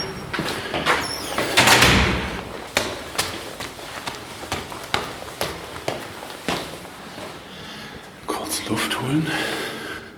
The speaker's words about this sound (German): So, Tür auf.